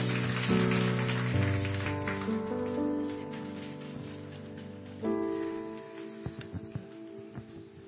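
A crowd claps in a dense, steady patter over sustained musical chords, the applause thinning out after a few seconds into a handful of scattered, sharper claps near the end.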